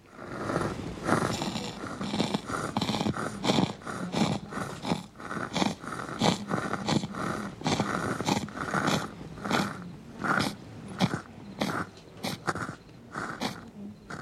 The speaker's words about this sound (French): Ces bruits de succion, ces grésillements, ces soupirs sont ceux que font deux fumeurs d'opium à quelques centimètres de moi. Ils sont allongés face à face sur une natte dans le coin le plus sombre d'une maison mongue.